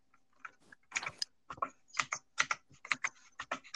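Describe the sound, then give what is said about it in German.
Rapid clattering keystrokes on a computer keyboard, sharp clicky taps arriving in quick bursts and an uneven rhythm, with no voices over them. “Du hältst jetzt deine Tastatur.”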